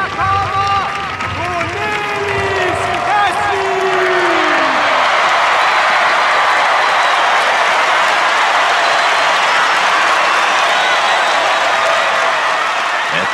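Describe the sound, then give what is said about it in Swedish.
A large crowd of young people at the Roskilde festival cheers and applauds loudly as performers enter the stage, with scattered whoops and shouts early on before merging into a steady, dense roar of clapping that fills the whole stretch. “Av jublande ungdomar.”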